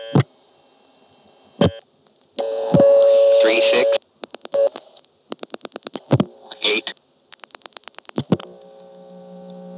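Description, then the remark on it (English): The number 99 is dialed over a telephone line to get a test again: a steady tone hums, then quick groups of sharp dialing pulses and tones click past in rapid bursts, fairly loud. “So I'll dial 99 and get the soup test again.”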